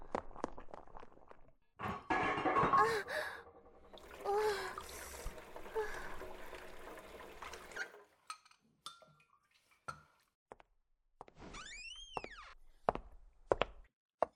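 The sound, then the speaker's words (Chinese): Kitchen clatter of a pot of boiling dumplings being handled over the stove, with a stretch of sloshing, bubbling water followed by scattered sharp clinks and taps of metal. “哎呀，差点忘了，我锅里还煮着饺子呢。”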